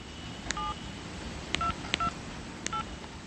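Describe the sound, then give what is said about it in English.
Four touch-tone keypad beeps sound at uneven intervals as a phone number is dialed to call Taliban spokesman Dr. Hamid, each short dual-tone note preceded by a faint button click, over a steady low hiss with no voices. “We tried calling Dr. Hamid, a Taliban spokesman who sometimes communicates with journalists from Afghan cell phones.”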